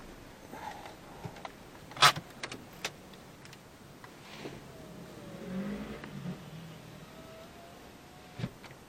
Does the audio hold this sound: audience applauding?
no